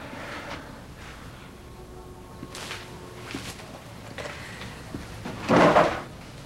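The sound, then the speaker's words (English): A drawer is pulled open and rummaged through: a few soft knocks and shuffles, then a louder scraping slide near the end, with no voices. “He looks in a drawer, then sees the answering machine.”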